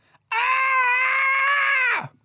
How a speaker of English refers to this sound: No, it wasn't. Did that do anything? That was just you screaming.